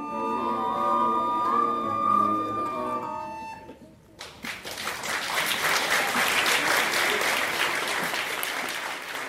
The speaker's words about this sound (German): Also, ich wette mal, da wurde gleichzeitig geklatscht und sich aber auch gewundert im Publikum über so manches.